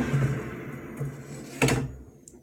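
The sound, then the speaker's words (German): An air fryer basket with fish sticks slides out for shaking with a short scraping rasp that ends in a sharp clunk, over the air fryer fan's steady low humming drone, which stops once the basket is out. “Das heißt, wir ziehen den Korb einmal raus.”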